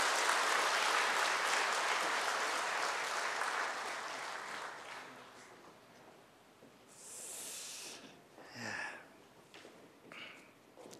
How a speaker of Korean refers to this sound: 다 같이 한번 축하의 박수 보내주시면 감사하겠습니다.